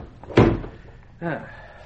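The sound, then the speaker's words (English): A door swings shut with a single loud, solid thud, and a moment later a brief voiced sound follows over faint background hum. “Close the door.”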